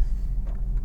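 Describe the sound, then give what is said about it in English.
A short, low grinding rumble from a car's damp, sticking disc brakes, locked up by moisture and rust after endless rain in Vancouver, heavy, with a few faint scraping catches on top and no voices. “Oh, hear that? Those are my brakes all locked up because of the all the moisture in the air.”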